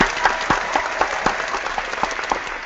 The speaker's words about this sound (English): So I got lots of love for Julie, and I want to give a big round of applause.